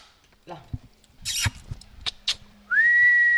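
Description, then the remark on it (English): At an open bedroom window of an 18th-century farmhouse bed and breakfast, the manager whistles loudly to call the hotel's horses grazing on a distant ridge: one long note that slides upward and then holds steady, following a few scattered knocks and rustling sounds. “She calls to the hotel's horses, who munch on grass along a distant ridge.”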